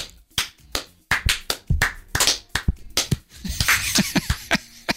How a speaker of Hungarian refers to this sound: Hát ezt tapsoljuk meg.